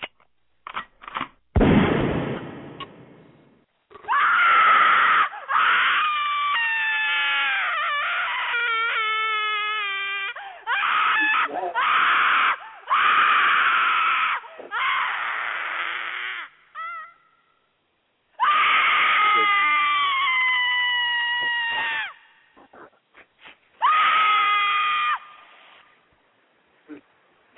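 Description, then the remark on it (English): Loud, shrill screaming and wailing in long sustained bursts with wavering pitch, separated by short gaps, intense, almost like a crying baby. “That's what you sounded like to me tonight, calling my phone, screaming in my ear.”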